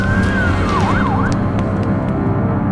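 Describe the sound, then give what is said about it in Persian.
A police siren from police cars stopped in front of a house late at night wails and warbles for about a second over heavy, rumbling street noise, then drops away, leaving the loud traffic drone to continue on its own. “همون شب دیر وقت، وقتی پیتر برگشت خونه، ماشینای پلیس رو دید که جلوی در خونه‌شون ایستادن.”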